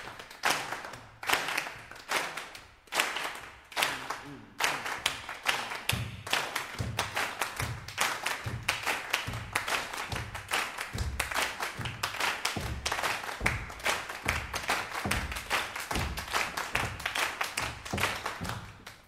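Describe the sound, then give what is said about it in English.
A group claps together on beats 2 and 4 in a steady, regular rhythm, sharp hand claps landing on a repeating beat with low thuds underneath, continuing evenly for the whole stretch with no voices. “Let's start clapping together on 2 and 4.”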